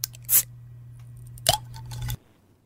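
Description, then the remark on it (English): Sparkling water is poured with a bubbly, fizzing crackle and a few louder splashy bursts over a low steady hum, then the pour cuts off abruptly after about two seconds. “100% sparkling there. You're spot on, mate. Well done. Sparkling water.”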